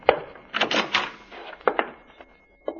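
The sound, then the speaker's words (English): The door of a recorder's office is tried and opened: a handle rattles and latch clicks sound in a quick cluster, followed by a few more sharp knocks and a final click, with no talking. “Let us try the door.”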